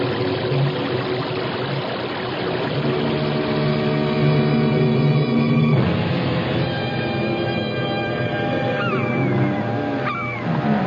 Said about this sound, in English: what's that noise? It sounds like a giant waterfall. There are no falls around here. It's a whirlpool. We're being sucked under.